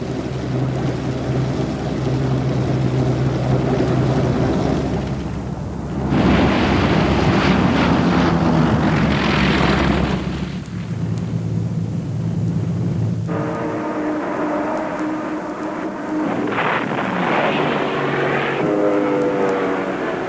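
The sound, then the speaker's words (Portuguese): Imperial Japanese Navy Mitsubishi Zero propeller planes, bomber and fighter versions launched from aircraft carriers, drone loudly overhead in a sustained roar, engines swelling and fading as aircraft pass in waves, with bursts of harsher noise as they attack the American fleet anchored at Pearl Harbor. No voices. “o Mitsubishi Zero da Marinha Imperial Japonesa, decolou nas versões de bombardeiro e caça dos porta-aviões para a história.”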